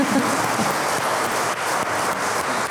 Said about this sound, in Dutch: Dank je wel aan ons publiek. Een applaus voor jezelf.